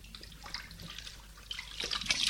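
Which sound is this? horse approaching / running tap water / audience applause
running tap water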